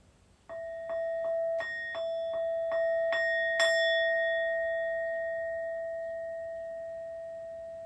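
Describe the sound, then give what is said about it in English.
A meditation bell is struck about nine times in quick succession to bring wakefulness to a group, each strike adding to a bright, layered ring that then hums on and slowly fades over several seconds. “I'll just ring the bell so there's wakefulness here in the group.”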